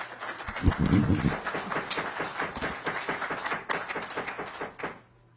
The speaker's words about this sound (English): We have business to do here. Please keep the applause down.